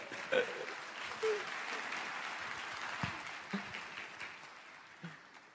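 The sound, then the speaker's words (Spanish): Audience applause for a pastor fills the whole stretch as a dense, steady wash of clapping, with a few sharper claps and brief vocal whoops popping out above it. “Un aplauso para el pastor”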